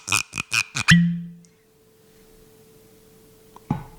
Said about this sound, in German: Ja, das aber hier, guck mal hier, so einen ganz analogen Korken, den kriege ich ab.